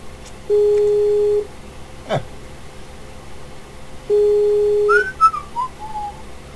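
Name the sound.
telephone busy signal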